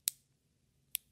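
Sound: scissors snipping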